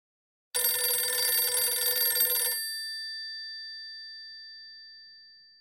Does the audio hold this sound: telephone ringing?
yes